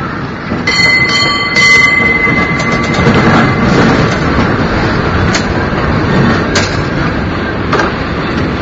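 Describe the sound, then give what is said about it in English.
A San Francisco cable car, heard by a rider standing on the outside, rattles and rumbles loudly along its tracks, with a brief metallic wheel squeal early on and scattered clanks over a steady, grinding roar. No one speaks. “I'm hanging out as the first standing rider on the outside, so I feel like a bumper.”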